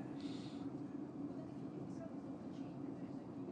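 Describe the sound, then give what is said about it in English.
A steady low mechanical rumble of a train idling outside the station at Reading, a constant droning hum with faint higher hiss, continuous and unchanging throughout. “Train seems to be sort of hovering outside.”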